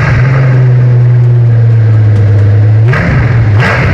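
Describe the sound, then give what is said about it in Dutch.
A black Mercedes car engine hums steadily at a low, even pitch, then revs up briefly with a rising whine near the end before settling again. Loud, with no talking. “Dit was een Mercedes, kleur wist je ook, dat was een zwarte.”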